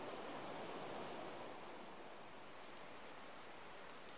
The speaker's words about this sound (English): We've made our way through the two pillared stone gateposts, and we're cutting our way deeper and deeper into Hackfall Wood. The river's still flowing away on our left-hand side, but it's a bit further down now as we start to climb further